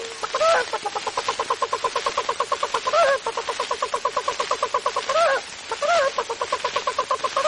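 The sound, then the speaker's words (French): A voice imitates a hen's clucking, fairly loud: a rapid, steady run of short clucks broken every few seconds by louder, rising squawks. “La poule chante au Ouida.”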